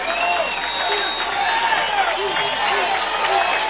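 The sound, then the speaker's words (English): A big stadium crowd at Martin Stadium rises to its feet, roaring and cheering during a football game as the Trojans face a fourth and two at the 38-yard line: a thick, steady wall of many overlapping voices that stays loud and unbroken, with no single speaker standing out. “Now the crowd coming to the feet.”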